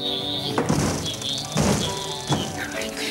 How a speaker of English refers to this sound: Flapping his hands like wings, Patch pretends to fly and crashes into the window by the next bed.